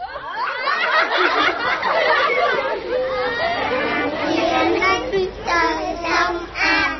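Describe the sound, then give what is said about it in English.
Neighborhood kids playing soccer outside the tall walls of a shelter: a steady mix of children's excited voices, shouts and giggles overlapping throughout, lively, with no single clear speaker. “Outside the tall shelter walls, neighborhood kids are playing soccer.”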